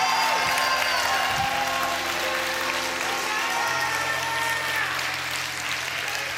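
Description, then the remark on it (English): An audience gives the Lord a shout of praise for about 10 seconds, erupting in loud, sustained applause mixed with shouts and cheers, a dense wall of clapping and voices that stays steady for several seconds with a low organ-like tone underneath. “Give the Lord a shout of praise for the next 10 seconds if you believe it.”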